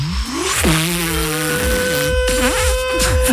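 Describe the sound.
Two voices mimic a vacuum cleaner choking on a sock, one voice doing the hose and the other the motor: a steady droning hum underneath while another voice slides through strained, wavering whines and sputters, loud and continuous for a few seconds.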